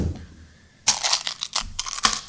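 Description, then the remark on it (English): Crunching of Tic Tac mints being chewed, picked up by an open microphone during a recording session, a series of sharp, crackly bursts in an irregular rhythm after a quiet start, moderately loud with no talking. “I think the mic's still open because I can hear you crunching in my head.”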